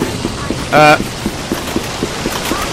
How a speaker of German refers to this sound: Wasser.